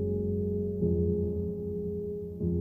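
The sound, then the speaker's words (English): Deep bells tolling, with fresh strikes landing about a second and a half apart over a rich, humming resonance that keeps ringing between them. No voices. “What is it about bells, tolling bells, like this tolling that we're listening to now?”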